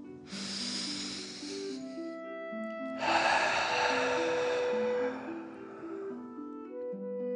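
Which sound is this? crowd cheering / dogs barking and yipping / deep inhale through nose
deep inhale through nose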